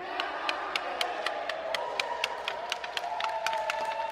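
A hockey team cheers together at the end of practice in a sustained, lively roar, with sharp claps and stick-like clicks scattered throughout, fairly loud for about four seconds.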